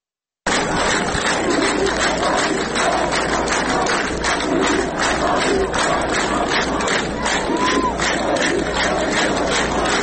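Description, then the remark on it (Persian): A large crowd chants together loudly and steadily at the Friday funeral of Kian Pirfalak, a 9-year-old child shot dead, in Izeh, Iran, during protests, with rhythmic pulses of shouted voices over a dense, continuous roar that carries for the whole ten seconds. “در ایزه جمعیت انبوهی در مراسم خاکسپاری کیان پیرفلک، کودک 9 ساله‌ای که با گلوله ماموران کشته شد، حاضر شدند.”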